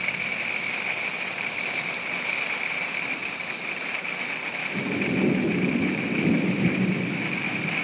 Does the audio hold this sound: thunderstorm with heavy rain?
yes